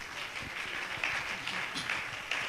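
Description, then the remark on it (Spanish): A church audience applauds steadily, giving a hand clap to the Lord, many hands clapping in a dense, continuous wash of crisp claps with no single beat standing out, holding at an even, moderate level throughout. “The Lord a hand clap.”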